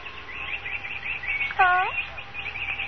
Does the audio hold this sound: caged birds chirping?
yes